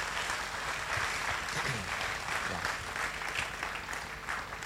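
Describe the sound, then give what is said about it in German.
A church audience applauds the church café helpers together, a steady, dense wash of many hands clapping at an even level for several seconds with no talking over it. “Ich denke, ihr habt einen Applaus verdient.”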